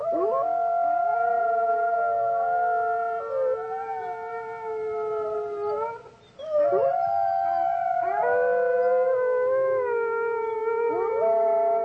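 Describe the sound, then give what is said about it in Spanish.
Several wolves howl together in long, overlapping sustained tones that rise and bend, a full chorus filling about twelve seconds with a brief dip in the middle before resuming. “El monarca mandó construir en los bosques palacetes y chales de caza y fundó un coto de lobos.”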